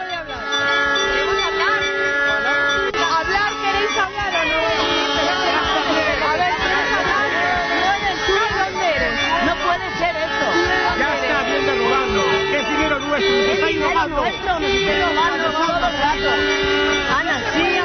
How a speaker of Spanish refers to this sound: Y Ana Botella aguantó el chaparrón de los silbidos e intentó dialogar con los manifestantes, aunque eso fue sencillamente imposible.